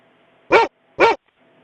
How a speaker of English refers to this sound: That sounds like a dog barking. Is it a dog? I don't know. I'm not good with animals. I don't know if it's a cat or a dog.